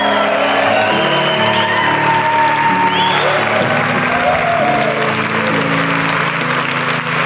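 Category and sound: crowd, audience clapping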